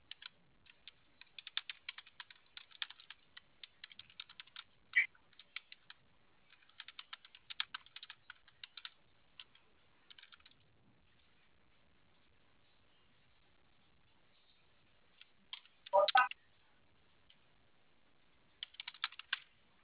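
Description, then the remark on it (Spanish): Bursts of rapid keyboard typing, the clicks coming in quick clusters separated by short pauses, with a brief louder clack near the end and no voices. “Oye, señorita, me cayó el cierre con el teclado y ya se volvió a abrir sola.”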